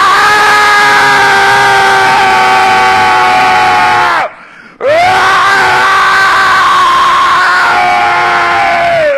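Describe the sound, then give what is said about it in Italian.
A man lets out two long, sustained, full-throated shouts, very loud, separated by a brief pause for breath, each voice trailing slightly downward in pitch at the end. “Facci un urlo per noi. È certo che gli faccio un urlo.”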